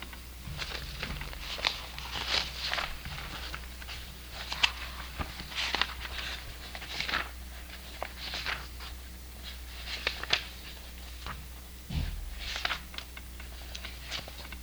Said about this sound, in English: It's raining again this year. The wet clearness falling hard on my umbrella and the windows.